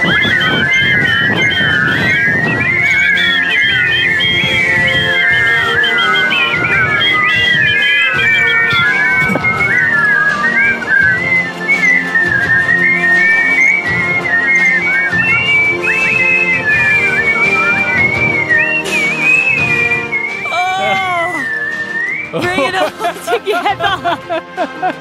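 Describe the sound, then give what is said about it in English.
A whistle team, a crowd of people in the Goulburn Valley, Australia, whistles a song together, the many slightly mismatched whistles forming a thick, wavering melody that carries on steadily, with some laughter and chatter breaking in near the end. “All right, everybody, Goulburn Valley, Australia, this is our moment. Whistles away!”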